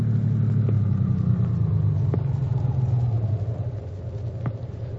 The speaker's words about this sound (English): Now they have reached the Dawson home and Dr. Jim stops the car.